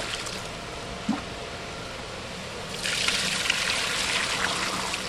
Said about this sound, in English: Buckets full of eggs and milk are transferred upstairs to a spacious, dark incubation room. See, stirring them up, stirring just to make sure that it's nice and mixed, and then adds water.